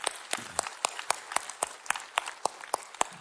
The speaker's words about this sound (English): Let's cheer for that at all campuses. Come on.